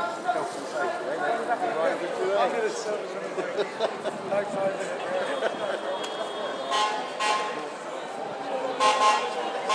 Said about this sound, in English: We have something coming down beeping its horn.